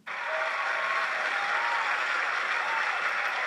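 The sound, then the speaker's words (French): A round of applause: dense, steady clapping from many hands starts abruptly and holds at a loud, even level for a few seconds, with no voices over it. “Celle-ci mérite une salve d'applaudissements.”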